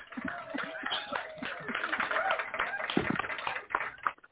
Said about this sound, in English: You gotta give him hand claps